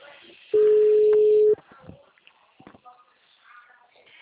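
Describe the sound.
A telephone ringing tone while calling a landline: one steady, low-pitched beep lasting about a second, clearly louder than everything else, followed by faint murmuring voices and soft scattered noises.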